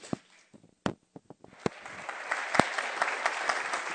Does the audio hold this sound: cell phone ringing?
no